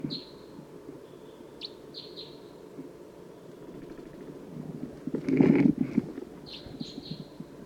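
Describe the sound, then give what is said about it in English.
An orangish or yellowish wild bird gives short, high, thin chirps in a few scattered bursts over a low steady background hum, with a brief louder rustling burst partway through. “there is an orangish or yellowish bird approaching and looking down.”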